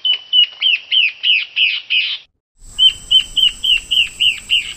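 Songs of a yellow-breasted antbird and a Peruvian antbird play one after the other, each a steady series of about eight clear, rising chirps; the second is slightly hissier, with a faint high tone and low rumble underneath.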